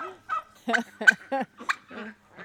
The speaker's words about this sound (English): Is that a colorful turkey over there? Is that the male? That's the male, and he did have something get into his tail feathers.